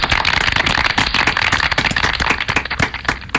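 Steady, dense clapping from an audience, many hands crackling together at once without pause for a few seconds, fairly loud and with no voices over it.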